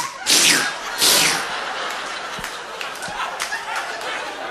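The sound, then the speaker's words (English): A voice mimics canned Spam meat sliding out of a can, making wet, sucking squelches: two loud breathy bursts, then a longer, sloppier gurgling slurp that trails along with small smacking clicks. “And meat does not make this sound coming out of a can.”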